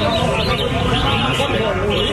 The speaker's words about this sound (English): From the bird singing competition in Thailand.